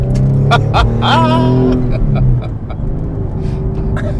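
A car engine runs steadily, a constant low rumble that eases slightly in pitch midway, with brief higher voice-like sounds over it early on.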